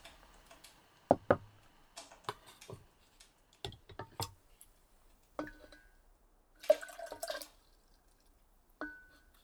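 Matcha tea being prepared: sparse taps and clinks of utensils against a bowl, then a short, brisk burst of whisking, with quiet gaps in between and no talking.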